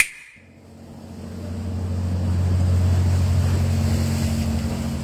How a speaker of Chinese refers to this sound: 又一辆货船穿过桥洞，每次船过就会引得运河水剧烈的拍打堤岸，听起来是不是还有几分波澜壮阔的意味？此处来往的货船、游船真的有点络绎不绝，接连穿过这座三拱石桥。